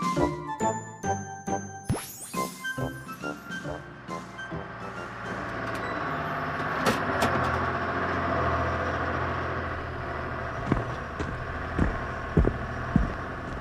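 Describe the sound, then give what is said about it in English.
A city bus pulls to a stop: a bright ringing chime opens, then a steady engine rumble and hiss take over, with a few sharp clacks near the end as people step off. “The City Mouse gets off the city bus.”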